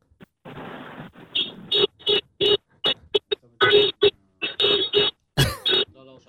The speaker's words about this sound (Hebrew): תן צפצוף באוטו, נשמע את האוטו רגע. צפצופים!